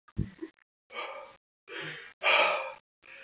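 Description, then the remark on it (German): A person imitates heavy breathing with a series of loud, breathy huffs and sighs, four or five drawn-out exhales separated by short pauses. “So, die ganze Zeit ein bisschen schwer atmen.”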